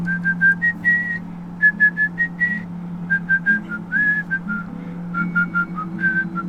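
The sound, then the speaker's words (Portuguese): A person whistles a lilting melody in short phrases of clear, bright notes, steady, over a low constant hum in the background. “Aí eu estava sentado na beira do Rio, passou um canoeiro assobiando uma música.”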